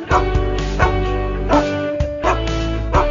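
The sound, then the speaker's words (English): A group of dogs dressed as a boy band bark and howl in time, covering a pop song while playing in a sunny park, over a bouncy pop backing track, loud, with sharp yips landing on a steady beat and sustained tuneful howls between them. “This adorable clip shows a group of dogs dressed as a British boy band, wearing ties, scarves, and even suspenders, barking and howling a cover”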